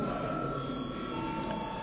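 An electric chamber bell in a parliament session, rung at the chair's call to the deputies just before voting, rings continuously at a steady, moderately loud level, a sustained buzzing tone with bright harmonics and no pauses, with no voices over it.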